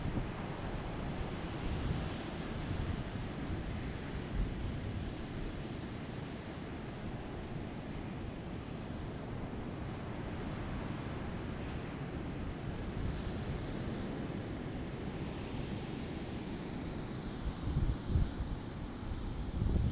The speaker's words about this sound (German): Schließe dabei einfach die Augen und lausche. Lass das Meer in dein Ohr.